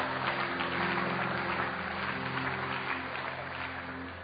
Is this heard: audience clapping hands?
yes